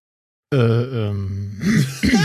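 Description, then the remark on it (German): A drawn-out, voiced groan gives way to rough, raspy bursts as someone clears their throat, with two short scraping pushes at the end. “Ja, nee, ich muss mal kurz räuspern.”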